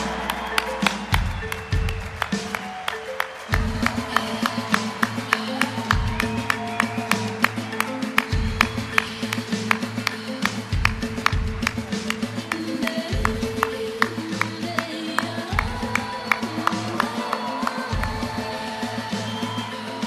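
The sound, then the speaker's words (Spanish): Applause from an audience at a Mexican cinema ceremony as the general director of the Mexican Film Institute and Luisa Huertas are welcomed onto the stage, many hands clapping steadily for around twenty seconds, with a low sustained hum or music underneath. “¡Aplauso fuerte!”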